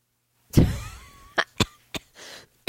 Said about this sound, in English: Oh my God. I shouldn't be coughing from laughing.